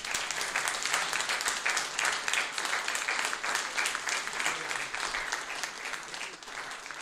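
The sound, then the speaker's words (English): Sustained audience applause after a lecture on Armenian memory books in Belmont, Massachusetts, in mid-November 2024, filling all seven seconds: a dense, steady wash of clapping hands that stays fairly even in loudness, fading slightly toward the end, with no talking over it. “And now please, please applaud”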